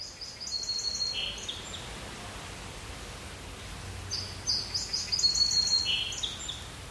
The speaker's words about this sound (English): So if, like, any of our listeners know any of the bird sounds that we've played so far, you can